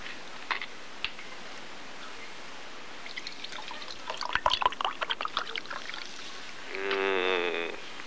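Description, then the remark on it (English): A fizzy drink is poured: a couple of sharp clicks, then crackling, bubbly fizz, ending with a rising gurgling tone as the glass fills. No one speaks. “Fizzy.”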